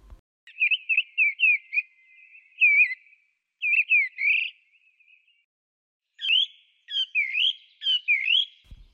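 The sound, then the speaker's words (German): A mistle thrush sings alone near a house in clear, fluty phrases of quick rising and falling notes, broken by short pauses, with no voices present. “Die 13-Jährige hat auch die Misteldrossel in der Nähe des Hauses entdeckt.”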